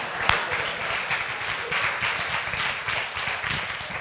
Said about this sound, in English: You can clap, yeah. It's a commendable moment. Yeah.